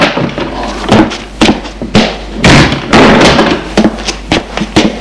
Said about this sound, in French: La porte s'est ouverte. C'est la mère qui arrive avec un plateau et des boissons.